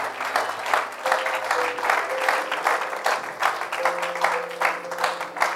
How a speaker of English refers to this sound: Why don't we give the Lord a big round of applause for them and their love for revival.